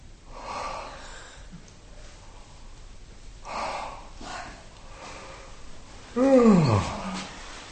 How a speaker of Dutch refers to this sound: Vaak is dat dus wat je al kunt begrijpen op grond van dat er iets vast zit en dat het met geeuwen losser komt. Ja. Geeuwoefeningen zijn dus ook erg goed.